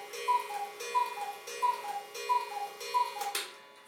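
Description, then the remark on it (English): A cuckoo clock calls four times in a steady rhythm, each call a falling two-note cuckoo, with a sharp mechanical tick between calls. Clear, no voices. “Oh, that's the cuckoo.”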